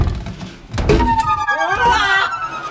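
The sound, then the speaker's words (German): A wooden cabinet door swings shut with a single dull thud, followed by a shimmering, rising warble of tones that swells and lingers to the end. “Tja, schließen wir die Tür.”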